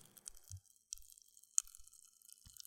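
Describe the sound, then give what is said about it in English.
Pop Rocks candy (Crystal Crunch Rocks) crackling in a mouth, a scattered run of tiny sharp pops and wet clicks with soft chewing thumps underneath, fairly quiet and irregular, no talking. “Yeah, Crystal Crunch Rocks are Pop Rocks. In fact, I have some spare ones here. Can you hear that?”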